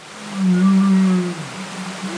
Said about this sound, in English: the whales change their calls, kind of the way we talk at a loud party